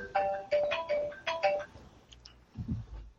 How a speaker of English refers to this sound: My phone is being obnoxious. Actually, I'll be right back.